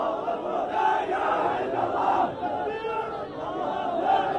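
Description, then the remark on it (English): A crowd of hundreds of young men chants together in loud, rhythmic unison as they march through the streets, carrying the body of a young man swaddled in a green Hamas flag; many voices blend into a dense, continuous roar, close and sustained throughout. “I'm in a crowd of young men, hundreds of them, marching through the streets, and a few feet from me, they're carrying a body, that of a young man.”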